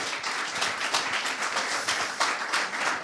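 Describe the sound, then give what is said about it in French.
An audience applauds steadily for the participants at the close of a League of Legends competition event, a dense wash of many hands clapping at a fairly even loudness, with no voices over it. “On peut les applaudir d'ailleurs, merci.”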